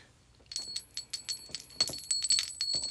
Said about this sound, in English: It's a Celtic bell. It's beautiful.